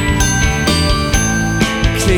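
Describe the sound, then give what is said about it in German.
A bicycle bell rings repeatedly in bright, metallic trills over a steady, full-bodied music backing, with the rings cutting through at a loud level. “Klingeln du und ich die Straßen entlang.”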